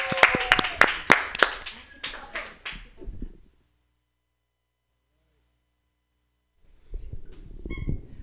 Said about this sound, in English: Let's give it a round of applause for these guys again one more time, guys.